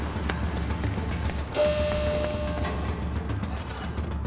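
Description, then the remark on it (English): Steady, dense pouring rain hisses without a break, with a brief high tonal whine rising above it midway through; no voices can be heard. “Okay, the rain is a pouring.”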